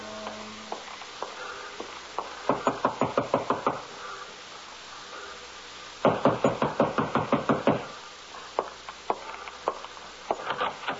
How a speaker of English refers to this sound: It was Angela's time, 6 o'clock, when I heard him on the stairway outside my door.